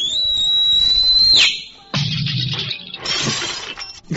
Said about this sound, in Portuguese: Onde a gente grava esse assobio do …, ele vai lá embaixo